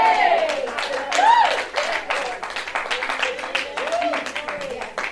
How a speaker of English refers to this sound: When you clap your hands in the corner, hallelujah corner, it's not for me. It's for Jesus.